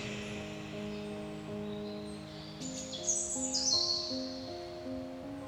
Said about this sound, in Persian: چه چه کنار پنجره غوغایی است